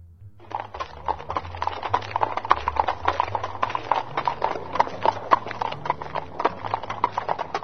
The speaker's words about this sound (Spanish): Desde allí vio cómo se acercaban 40 jinetes y se detenían de golpe, entre relinchos, gritos y risotadas, ante una inmensa roca.